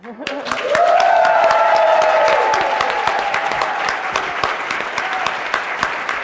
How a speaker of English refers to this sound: Oh, I'm not supposed to clap. You know it's good if the people who aren't supposed to participate start clapping.